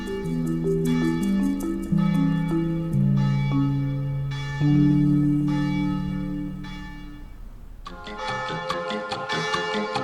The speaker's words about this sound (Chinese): 叮当叮当，叮当叮当，叮当叮当。老鼠奶奶仔细地听着，这是村里报警的钟声，村里肯定出大事了。